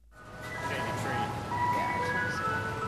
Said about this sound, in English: Is there any sound that's more summer than the music from an ice cream truck?